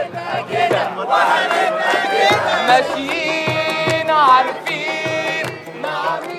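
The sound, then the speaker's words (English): A huge crowd at Tahrir Square roars and screams in euphoric cheering as Mubarak steps down, many voices overlapping in loud, sustained waves with shrill cries rising above the din throughout. “And I was at Tahrir Square when Mubarak stepped down, and the euphoria that just was like waves coming to you from the crowd was just amazing.”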